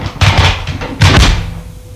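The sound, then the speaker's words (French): A small medicine cabinet door is opened, giving two solid knocks with a brief rattle, about a second apart, each fading quickly into quiet. No one speaks. “Ouvre l'armoire à pharmacie.”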